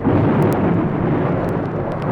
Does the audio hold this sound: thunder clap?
yes